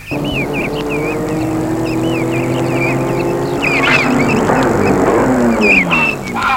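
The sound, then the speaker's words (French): A gray BMW's engine hums steadily on a mountain road in the afternoon and grows a little louder as it nears, then drops off at the end as the car stops, with birds chirping in the background. “Il voit arriver à lui BMW grise. Fait signe pour qu'elle s'arrête.”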